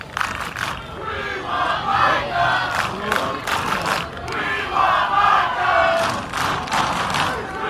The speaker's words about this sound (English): So the We Want Micah chants taking place.